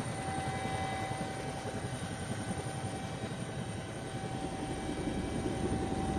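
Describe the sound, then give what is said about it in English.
A helicopter landed on a narrow strip of an island, doors open, keeps its rotors turning steadily, a loud, continuous low-pitched thrum with a constant engine whine above it, running without pause and with no talking. “He's keeping the rotors going because he can't afford to stay here.”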